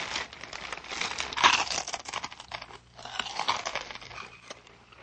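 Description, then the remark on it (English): Loud crunching of a mouthful of potato chips, dense crackly bites in two bursts with a brief lull between, no voices. “Munce, crunching a mouthful of potato chips.”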